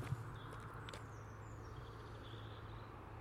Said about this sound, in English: You hear that blackbird?